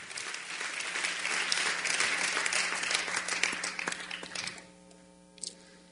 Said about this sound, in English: Let's give God a hand clap. Let's give yourself a hand clap. Hallelujah.